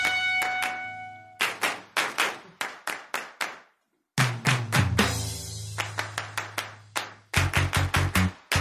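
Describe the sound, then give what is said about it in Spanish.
People clap in a steady, rhythmic beat along to a song, the sharp handclaps loud over sustained musical tones, with a short pause in the middle before the clapping resumes. “Canten conmigo y aplaudan así.”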